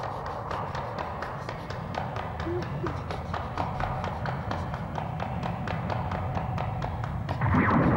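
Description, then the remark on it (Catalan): Quick, evenly spaced footsteps of Goku running at full speed along a pink-walled corridor, fairly loud, pattering steadily over a dense background wash for the whole stretch. “En Goku continua corrent a tota velocitat pel passadís rosa.”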